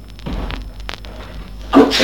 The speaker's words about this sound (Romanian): Ai auzit? A strănutat cineva la ușa de la intrare.